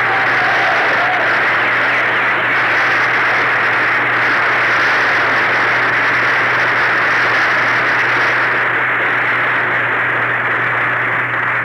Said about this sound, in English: Gee, I can still hear that applause.